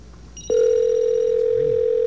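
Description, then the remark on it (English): A steady electronic ringing tone of a PCS mobile phone being called from another phone in the studio begins after a short click and holds one unbroken pitch, loud, with faint line hiss underneath and no voices. “Does seem to be ringing.”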